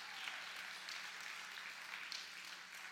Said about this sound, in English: Give God a hand clap of praise on that one.